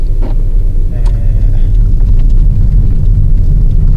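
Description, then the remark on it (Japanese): Steady, deep road rumble from inside a car driving from Nagoya toward Gifu Prefecture, Japan, as light rain begins to fall; constant and fairly loud throughout, with a few faint higher tones briefly rising above the drone near the start. “ただいま、名古屋から、実家の岐阜県に向かってですね、車を走らせておりますが、パラパラパラパラと降ってまいりました。”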